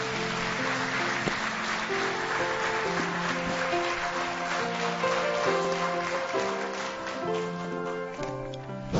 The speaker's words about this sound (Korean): 우리 박수 한번 하겠습니다.